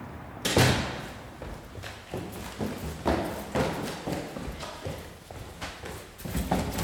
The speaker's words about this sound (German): Es ist Sonntag, früh am Morgen. Ich werfe eine Jacke über, schließe die Tür hinter mir, die Treppen hinunter.